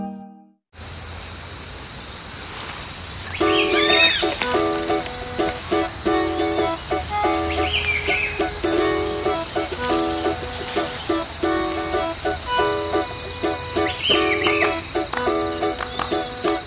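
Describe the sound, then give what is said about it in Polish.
Colombian jungle ambience on an estate in the Colombian jungle: a steady, shrill insect drone beneath layered tonal calls, with occasional swooping bird whistles breaking through every few seconds. No one speaks. “Właśnie znajdujemy się w tej chwili w dżungli kolumbijskiej.”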